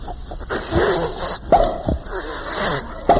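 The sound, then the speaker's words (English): A bloodhound whimpers and whines in a long, wavering high-pitched stretch, broken by two sharp, loud barks, one midway and one at the very end. No one speaks. “Shucks, met another bloodhound.”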